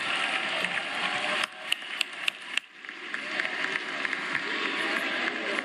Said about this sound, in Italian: Questo fu l'applauso alla fine della votazione per la riforma costituzionale che riconosce alle comunità indigene e afromessicane personalità giuridica e diritti collettivi, tra cui autodeterminazione, autonomia e gestione delle proprie risorse.